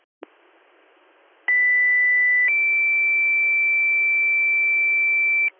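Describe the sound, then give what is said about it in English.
Fire dispatch pager alert tones ring out over a noisy radio channel, sounded again to call additional manpower for Troopsburg Fire to a working structure fire: a steady high tone holds for about a second, then steps up to a second, slightly higher tone that sustains for several seconds. “Can you hit our tones again for manpower, please?”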